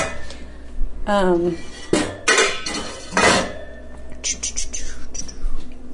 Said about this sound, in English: And there's one more thing that I needed to clean and should have before this whole thing started. Just wiping out one of our cast iron skillets.